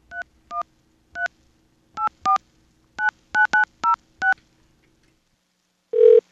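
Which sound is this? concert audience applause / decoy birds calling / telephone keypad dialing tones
telephone keypad dialing tones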